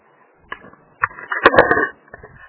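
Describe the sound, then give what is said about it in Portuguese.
A few sharp clicks of typing on a keyboard, sparse at first and then bunching into a short, busier burst before stopping. No one speaks. “Eu só tô tirando o telefone aqui porque pra ficar digitando aqui uns levantar, mas eu tô por aqui, tá?”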